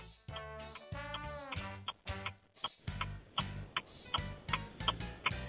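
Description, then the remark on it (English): A steady, evenly spaced clock ticking, roughly two ticks per second, runs over a low pulsing musical bed as a quiz's five-second answer countdown timer. No one speaks. “The clock is ticking.”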